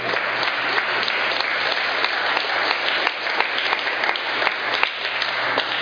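An audience bursts into steady applause, many hands clapping in a dense, sustained roar that holds at an even loudness for several seconds with no talking.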